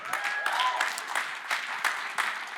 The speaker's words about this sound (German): Schaut mal, kleiner Applaus für die beiden.